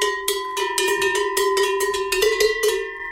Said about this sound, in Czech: Vstupujeme do místnosti zhruba tak 4x5 metrů a je úplně plná zvonců od těch nejmenších až po tamhle, ty úplně obrovské. No to dobytok nosil kravy.